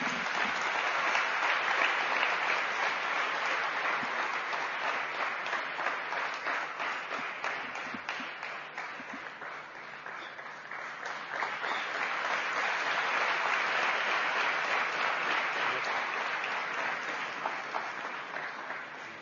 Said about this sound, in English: Brothers and sisters, please give a loud round of applause